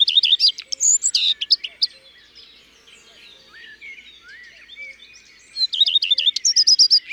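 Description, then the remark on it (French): A common redstart sings alone, each phrase opening with a few clear notes ("i tru tru tru") and ending in a varied, fairly musical twitter, with a quieter pause of scattered faint notes between two bright strophes. “Et la fin de la strophe est variable, une sorte de gazouillis plus ou moins musical.”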